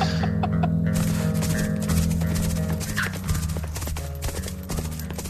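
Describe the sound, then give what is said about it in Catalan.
Several horses' hooves clop in a steady, overlapping rhythm, loud and approaching, with a faint whinny in the background and no talking. “Són les petjades dels cavalls dels meus homes.”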